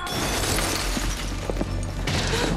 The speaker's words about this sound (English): He wields a table leg like an axe and smashes a lamp into smithereens just above Kate and Gran's heads.